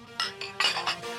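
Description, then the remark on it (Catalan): Several quick glass clinks ring out in close succession, bright, like glasses touched together in a toast, with no talking over them. “Fem un brindis final. Un brindis.”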